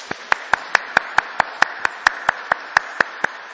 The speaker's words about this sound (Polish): Jako, że nas jest trochę mniej, musimy ją przywitać bardzo gorącymi oklaskami, tak żeby nam się wydawało, że ten kościół jest wypełniony po brzegi.